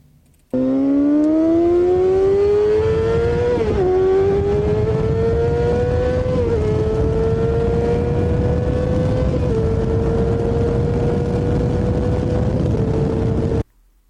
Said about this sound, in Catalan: Vale, difícil endevinar la marca. Deixeu-me que us digui quin tipus de moto és i deixeu-me que us doni 3 o 4 motos, perquè és molt difícil. Això d'aquí és una moto de 600 o de 1.000 cilindrades, és una moto d'una superesport